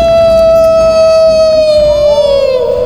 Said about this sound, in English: Another wolf across the valley joined in the night's chorus as the raider lay on the ground, his eyes wide in astonishment.